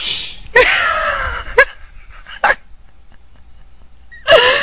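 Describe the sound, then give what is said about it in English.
A voice imitates flapping wings with a few breathy, whooshing bursts, one longer and the rest short, spaced unevenly with quiet gaps between, fairly loud. “Make the wing sound.”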